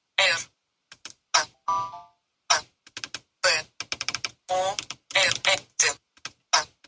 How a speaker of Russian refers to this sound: Соответственно, вы можете удерживать запись и проговаривать название своего будильника. А можете ввести его с клавиатуры, что я и сделаю.